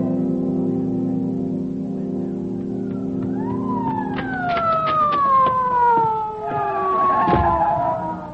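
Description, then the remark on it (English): An ambulance siren wails over a low engine rumble, its tone sliding steadily downward as it winds down, with some clanking street noise mixed in. “Who called the ambulance?”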